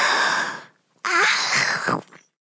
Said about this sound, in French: J'ouvre ma bouche grand, grand maintenant et je bâille.